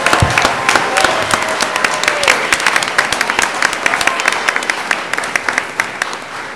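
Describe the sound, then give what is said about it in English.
A room full of people applauds the Edgewood staff, dense overlapping claps forming a steady, fairly loud wash that holds evenly for several seconds with a slight murmur underneath. “If we could give them a big round of applause.”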